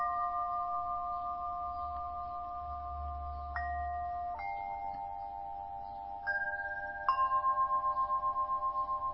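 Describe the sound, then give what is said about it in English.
Meditation bells struck several times, each clear tone ringing out and overlapping the last, sustaining with a gentle shimmering pulse; no talking, just the resonant bells. “Just as there can be space between the bells where there's a moment of silence and you are aware of the silence”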